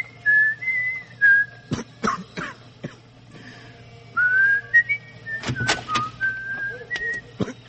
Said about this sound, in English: Why do you keep whistling if it makes you cold?